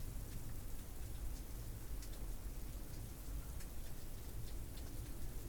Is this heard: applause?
no